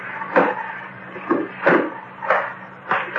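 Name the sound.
safe door being opened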